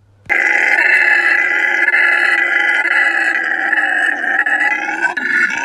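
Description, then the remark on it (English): A loud, continuous guttural roar, like a howler monkey howling, holds steady for about five seconds with no breaks, full-throated, then cuts off abruptly. No one speaks. “And, does that name have anything to do with the Howler monkey, perchance? After listening to that soundbite, I'm going to say 100% no.”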